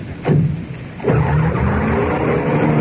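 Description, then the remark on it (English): A car engine roars to life as a woman drives away in a cloud of dust, surging twice with a brief skid of tires, then holding a steady, loud rumbling drone as it accelerates. No voices are heard. “Now, that was her pulling away in a cloud of dust.”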